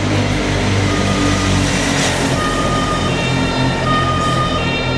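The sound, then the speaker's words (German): Loud, steady traffic noise on a busy road with an ambulance siren wailing through it, engines rumbling as vehicles pass. “Und klar, man muss hören, ausweichen, zum Beispiel, wenn ein Krankenwagen kommt.”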